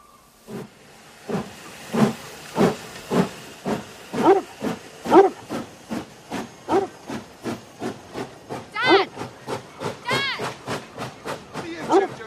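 A steam locomotive chuffs past, loud rhythmic bursts of hissing steam repeating steadily about twice a second, with brief higher squealing tones mixed in toward the end.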